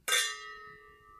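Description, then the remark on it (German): A single bright clink of a Riedl champagne glass holding Vernatsch red wine, raised in a toast at a wine tasting; its clear high tone sustains and slowly fades over a second, fairly loud, with no talking. “Eigentlich ist es ein Champagnerglas. Aber ich habe gemerkt, für Verkostungen funktioniert dieses Glas sehr gut. Und auch unser Fernatsch passt da gut rein. Mhm. Cheers.”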